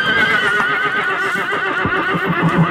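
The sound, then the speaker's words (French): A horse whinnies loudly, a long quavering neigh that wavers up and down for nearly three seconds, with faint shuffling hoof sounds underneath and no one speaking. “Bon, enfin, si je peux entrer avec un cheval, bah oui, tu sais que le plan Vigipirate, ça s'est un peu durci.”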